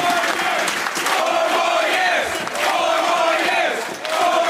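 A large election-night crowd in the Netherlands roars and cheers loudly and continuously as Wouter Bos is seen to be losing, a dense wall of shouting voices with rising swells, and no single speaker standing out.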